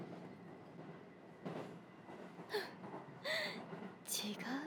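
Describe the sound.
A steady rumble of a crowded commuter train interior, with rattling, clacking bursts and squeaks over a constant low drone, and faint murmuring voices blending into the background.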